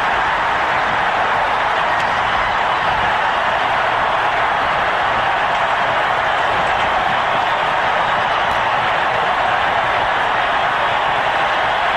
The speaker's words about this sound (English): I tell you, I could listen to the crowd. I could just listen to the crowd for the next 10 minutes.